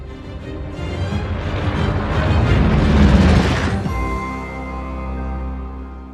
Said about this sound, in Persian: چیز دیگه هست که قبل از انفجار پایگاهتون یادتون بیاد؟